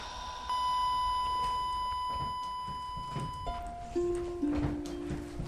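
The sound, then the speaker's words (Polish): A wristwatch alarm sounds a steady, high electronic tone for about three seconds, then drops into a few shorter, lower-pitched tones, heard over faint background noise. “To jest ten zegarek.”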